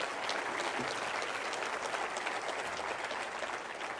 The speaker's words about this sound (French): Applaudissent avec moi le Fils qui est là pour la guérison.